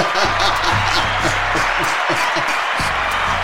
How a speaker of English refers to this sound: Give him a hand clap, man.